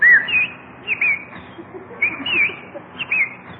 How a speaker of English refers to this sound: look at that beautiful bird on your lawn. Oh, look, he's hopping over to us. Come on, birdie. Come here.